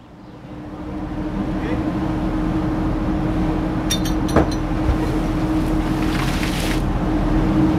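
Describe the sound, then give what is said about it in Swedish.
Two large concrete foundations, meant to hold a yellow noise buoy in place off Landsort in the Stockholm archipelago, plunge into the sea with a sudden splash midway, followed by a wash of spray and churning water, all over the steady drone of a boat engine. “2 stora betongfundament ska hålla bojen på plats, och när de plumsade i”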